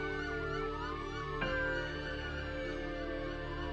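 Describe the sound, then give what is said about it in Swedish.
Several emergency vehicle sirens wail together as responders set off immediately with blue lights after an emergency call, their pitches sweeping up and down in overlapping cycles, loud and continuous over a steady low engine rumble, with a brief thump partway through. “Och de ger sig iväg direkt med blåljus och sirener.”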